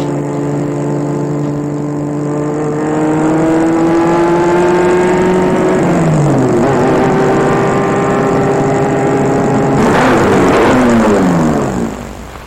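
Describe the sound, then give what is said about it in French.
A car engine hums, its pitch shifting as the car rolls in and slows to stop in front of the entrance of a luxurious five-storey building on avenue Montaigne, with a brief rough burst near the end before the motor winds down and stops. “Elle va arrêter sa voiture devant l'entrée d'un immeuble du 19e, très luxueux, de 5 étages.”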